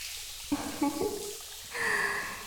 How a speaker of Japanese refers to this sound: シャンプーにはリンスが配合されてるから、あとは頭流していくだけだね。泡泡が残らないよ、念入りにシャワーで洗い流していって、シャンプーの泡残っちゃうとフケやかゆみの原因になっちゃうのね。